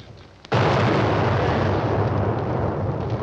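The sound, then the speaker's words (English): A mountain explodes after a brief quiet moment, spewing dust and debris over a path, followed by a sustained heavy rumble of falling debris that stays dense and roaring until the end, with no voices. “The mountain explodes behind them, spewing dust and debris over the path.”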